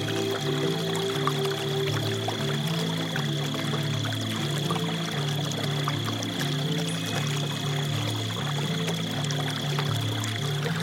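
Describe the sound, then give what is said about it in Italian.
Gentle water laps and trickles steadily throughout, a soft continuous wash with no voices, while low sustained tones hum quietly underneath. “Il rumore lieve dell'acqua risuona delicato.”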